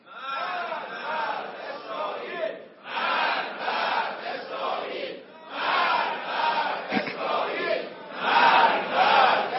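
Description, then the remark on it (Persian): A large crowd chants "death to Israel" in loud, rhythmic unison, repeating the slogan in bursts of about two to three seconds with brief pauses between them. “این نیاز داره که جامعه اسلامی، مردم مسلمان جهان، حتی آزادگان جهان اونا رو فراموش نکنن و فریاد مرگ بر اسرائیل رو مدام بدن.”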